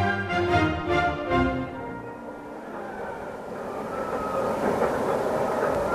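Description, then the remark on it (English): Bucket chain excavators, massive machines removing huge quantities of earth to reach brown coal at the Czechoslovak Army open-cast lignite mine below Jeseří Castle, grinding away in a steady, heavy mechanical roar, with deep rumble, clanking rattle and droning metallic tones layered on top. The sound continues throughout, and no one speaks. “These are bucket chain excavators, massive machines used for removing huge quantities of earth to allow access to the brown coal underneath.”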